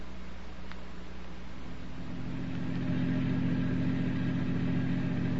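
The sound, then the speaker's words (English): A car engine hums steadily from inside the vehicle, a low droning rumble that grows a little louder partway through as it drives on toward Monte Carlo. No one speaks. “My car's at the curb. Let's go.”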